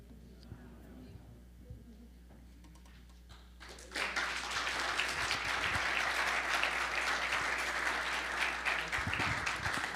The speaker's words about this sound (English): Amen. Let's give our speakers another round of applause. Was that just impactful?